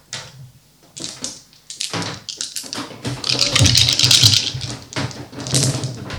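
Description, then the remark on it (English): Eight dice are rolled in a tabletop game, clattering and clicking against a hard surface in bursts, building to a dense, loud rattle in the middle before a few scattered final clicks. “So it's 8 dice we'll get, isn't it?”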